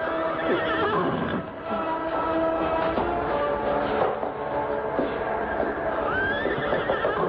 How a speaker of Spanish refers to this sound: Pobres caballos. Están a punto de morir. Sí. No pueden seguir adelante.